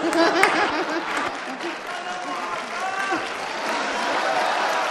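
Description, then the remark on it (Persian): Sustained applause from an audience, dense clapping that stays steady and fairly loud throughout, with some voices and cheers mixed into the crowd noise. “همسر کسی نشدیم اینجوری تشویقمون کنن.”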